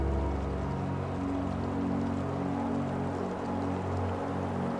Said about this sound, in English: Standing by the river as a cool spring breeze makes its way across the riverbed.